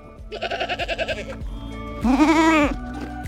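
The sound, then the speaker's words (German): Two bleats from goats grazing calmly near an active volcano: first a quavering, pulsing call about a second long, then a short pause and a louder, steadier bleat. No voices. “Na, weil meine Ziegen gerade ganz entspannt grasen.”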